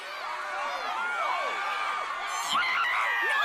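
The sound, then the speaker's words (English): A large concert crowd cheers and whoops continuously as pyrotechnics flash across the front and back of the stage, many high excited voices and screams overlapping into a loud, sustained roar that swells slightly toward the end. “Pyrotechnics flash across the front and back of the stage, and the crowd go wild.”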